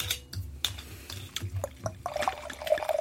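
Silvaner wine from Buntsandstein is poured into the left of two glasses, a gurgling liquid stream that rises in pitch toward the end as the glass fills, with small clinks and taps early on. No one speaks.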